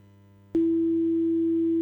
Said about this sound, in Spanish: ¿Se oye un pitido siniestro? ¿Se oye un pitido siniestro?